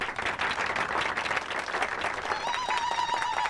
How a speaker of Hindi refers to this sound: दूल्हा और दुल्हन के लिए जोरदार तालियां।